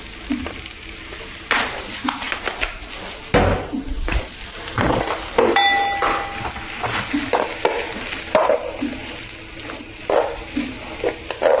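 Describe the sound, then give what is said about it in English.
Peas and asparagus being added to a dish and fried in a frying pan, a steady sizzle broken by repeated scraping and clattering as a utensil stirs them, with a faint soft voice now and then. “Now that you have your courgettes and butter beans, we're taking the peas and the asparagus and adding them both to the dish.”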